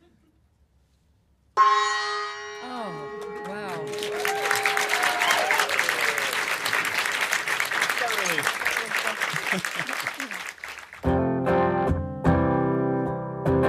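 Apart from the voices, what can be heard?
gong being struck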